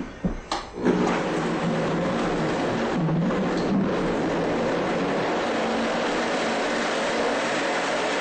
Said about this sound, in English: There, I've blended up the fruit.